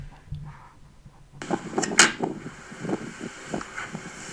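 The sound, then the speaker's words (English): A plastic bin lid is shut outdoors with a sharp clack, followed by a few smaller knocks and rattles, all over a steady rush of wind noise that starts suddenly partway through. “Are you closing the bin lid?”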